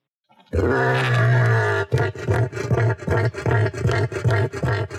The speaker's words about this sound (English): Here's what a cassowary sounds like.